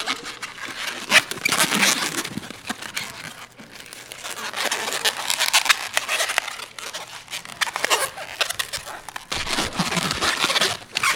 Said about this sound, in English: Do you want to mic the sound of this? It's funny, like, I don't buy these balloons very often. I can feel that this one's kind of old, so it actually might pop.